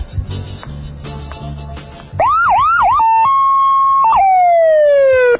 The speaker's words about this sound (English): Every time you blow the siren, the people sort of run in terror. I'd like to see that. Could you do it again?